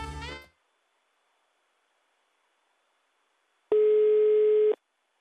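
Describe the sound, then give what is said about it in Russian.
After a short buzzy burst and a few seconds of silence, a single steady telephone ringback tone of a call made live on air on Love Radio sounds for about a second, a flat mid-pitched hum with no talking. “У меня уже гудки пошли, поехали.”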